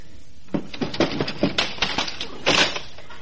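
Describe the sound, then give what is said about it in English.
A door opens quietly, a string of soft clicks, rattles and creaks over about two and a half seconds, with a slightly louder scrape near the end. No one speaks. “Suddenly the door opened quietly.”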